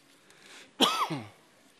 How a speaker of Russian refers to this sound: Я извиняюсь, что кашлю. У меня уже давно кашель, поэтому кому не нравится уже.